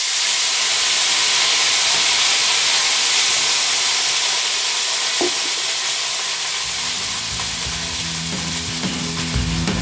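food sizzling

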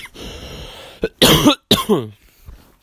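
coughing

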